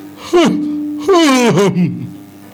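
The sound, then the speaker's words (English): A voice imitates a long, drawn-out yawn, as of someone starting to read the Bible, with a breathy onset, a sustained tone, then a wavering, sighing release. It is fairly loud, with no other speech. “Already you are yawning.”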